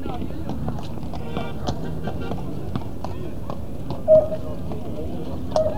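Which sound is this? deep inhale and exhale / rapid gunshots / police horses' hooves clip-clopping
police horses' hooves clip-clopping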